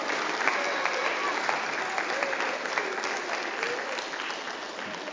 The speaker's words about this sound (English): Some cheering might be an appropriate response at this time.